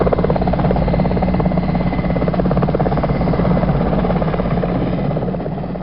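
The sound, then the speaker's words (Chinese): A helicopter arriving to take a patient to hospital: its steady, loud rotor chop fills the whole stretch, a dense rhythmic thudding with engine buzz that holds constant, easing only slightly at the very end. “飞机来了，飞机来了。”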